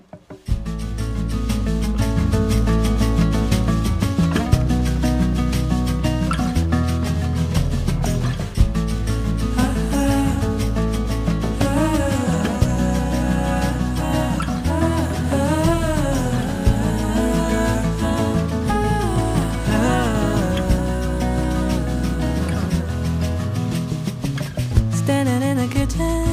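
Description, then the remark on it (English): A recorded song from a female singer's debut album plays steadily at full volume for the whole stretch, with a warm, dense instrumental backing and a sung melody gliding and wavering above it. “it's one of my favorite songs off of her new, I believe, debut album”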